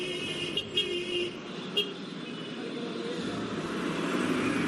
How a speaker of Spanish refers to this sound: Es el tráfico constante en una ciudad como Barcelona y que es la principal fuente de ruido durante el día.